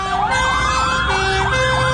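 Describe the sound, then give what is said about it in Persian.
Several fire engine sirens wail at once as fire engines head toward Evin Prison, their overlapping rising and falling tones layered over a low rumble of traffic, loud, with no one talking. “اینجا خودروهای آتش نشانی به سمت زندان اوین میروند.”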